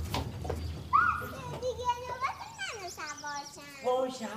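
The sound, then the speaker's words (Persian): Children's high-pitched voices shout and squeal playfully as a man plays with them and gives them rides, with excited rising cries and chatter overlapping in a lively, continuous burst of play. “… مشغول بازی با بچه هاست و به اونها سواری میده.”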